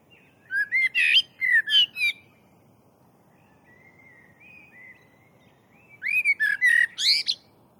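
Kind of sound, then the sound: bird, blackbird singing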